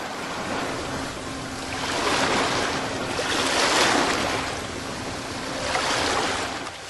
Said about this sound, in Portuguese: Bem, alto mar, mar aberto. Esse barco, ele é seguro?